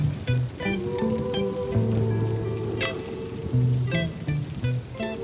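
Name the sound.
rain falling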